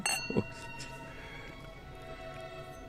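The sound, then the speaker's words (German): Glasses clink together once in a toast, a bright knock that leaves a clear, high ringing tone slowly fading over the next few seconds. “Zum Wohl. Das kann ich übrigens in 43 Sprachen. Oh nö, lass mal. Prost. Prost.”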